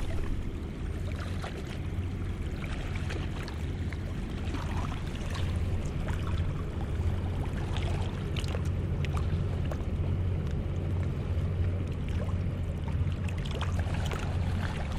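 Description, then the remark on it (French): A speeding boat's engine drones steadily, a low constant rumble under rushing, splashing water from its big wake waves, with smoke coming out behind it, continuous for the whole stretch with no voices. “Et le bateau qui file fait de grosses vagues et l'on voit de la fumée qui sort derrière.”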